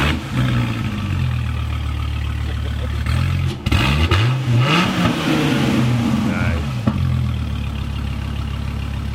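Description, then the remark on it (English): A Viper V10 engine with side exhaust rumbles at a loud idle, then revs up sharply in a rising, snarling burst through its side exhaust before dropping back to a steady, throbbing idle. “So the V10 has its own sound.”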